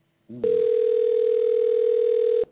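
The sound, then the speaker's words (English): A loud, steady telephone tone holds one unbroken mid pitch for about two seconds before cutting off abruptly, preceded by a brief murmur of a voice, as a host places a call-in phone call to an R&B singer. “Let me see if I can get him on the line.”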